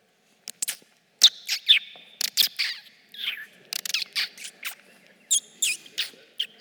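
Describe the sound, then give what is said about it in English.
Birds sing in a lively springtime morning chorus, with quick bursts of high, bright chirps and trilling notes that repeat irregularly, with no one talking. “You hear the birds? It's springtime. Do you hear the birds?”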